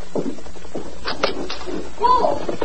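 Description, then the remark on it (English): A door is opened: a few short knocking clicks from the latch and handle, then a soft swing, with indistinct voices murmuring underneath. “I'll open the door.”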